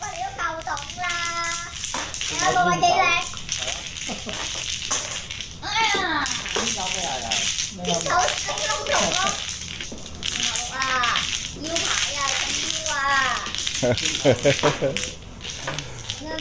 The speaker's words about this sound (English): Now that clickety-clackety-clack sound that you're hearing are the tiles being shuffled. Once a hand is over, all tiles are turned face down, pushed into the middle of the table, and everybody grabs them and starts moving them